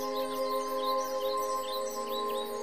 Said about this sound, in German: Und wunderschöne Vogelmusik klingt von den Bäumen und die Grillen summen.